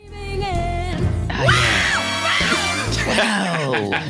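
A person lets out a loud, sustained scream of pain from an electric shock from a prototype Chevy Volt battery wired up in a studio, strained and wavering in pitch, rising and falling in anguished bursts for about four seconds with no other talking.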